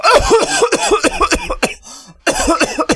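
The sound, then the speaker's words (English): A loud fit of harsh coughing from a person in a car during a police stop in Los Angeles, California, many rapid hacks in a row, a short breathy pause, then another burst of repeated coughs. “It's just germs coughing.”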